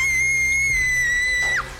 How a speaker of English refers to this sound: Then, I watched in shock as a black arm reached in through the shower curtain and tried to turn the water off. I screamed.